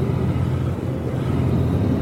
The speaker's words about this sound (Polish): To jest bardzo specjalny odcinek nagrywany w samochodzie. Tutaj słychać, że samochód warczy.